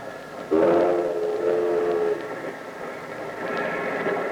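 A train rumbles steadily past while its horn sounds a long, loud blast, followed later by a fainter second horn tone over the continuing clatter of the cars.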